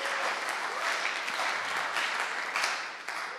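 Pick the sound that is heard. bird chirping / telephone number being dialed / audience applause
audience applause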